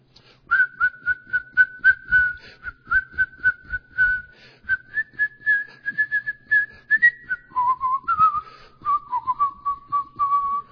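A bright, bouncy whistled melody of an old Disney song carries on for about ten seconds, stepping between notes over a steady, rhythmic beat, with no one speaking.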